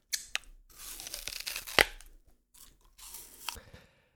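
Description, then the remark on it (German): Someone bites into a crisp apple with a sharp, wet crunch, followed by a few seconds of moist chewing and another crackling bite near the end, no talking. “Das ist ja der perfekte Moment, nochmal einen Bite von meinem Apfel zu nehmen.”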